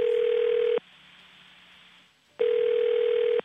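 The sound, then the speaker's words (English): An outgoing phone call to the Thunder Bay Museum rings on the line: two long, steady, buzzy ring tones, each under a second, separated by a quiet pause of more than a second, with no voices. “So all the people I talked to from Thunder Bay also had no idea, so I made some calls.”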